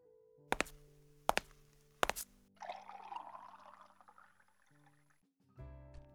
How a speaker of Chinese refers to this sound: 是不是口渴了？我去倒水给你喝。